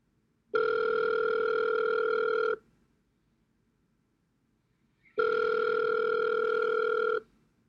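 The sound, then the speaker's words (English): A telephone ringing tone sounds through the earpiece while calling a colleague: two long, steady, buzzy rings, each about two seconds, separated by a quiet pause. It is clear, with no voices. “So, I picked up the phone and quickly called my colleague.”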